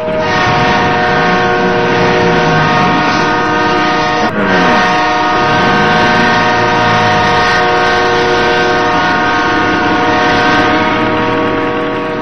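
Loud, nonstop blaring of horns over a dense rumble of street traffic of many cars and motorcycles outside, steady for the whole stretch, with engines sweeping past underneath and no voices.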